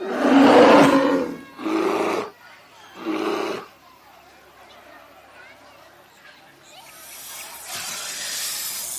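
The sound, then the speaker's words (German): Three loud, throaty roars burst out in quick succession, then fade into a quieter stretch that ends in a long, airy hiss from a snake that feels threatened, rising toward the close. “Das Zischen kommt von der Schlange. Es bedeutet, dass sie sich bedroht fühlt.”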